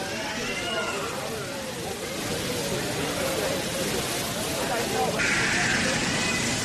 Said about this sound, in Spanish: Este sonido estremece, es el rozar de las mantas isotérmicas de cientos de inmigrantes de todas las edades que se encuentran encerrados de 20 en 20 en un almacén distribuido por módulos vallados que parecen jaulas.